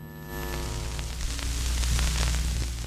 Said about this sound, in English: Most SCIFs don't have windows. Some emit a kind of white noise to prevent eavesdropping.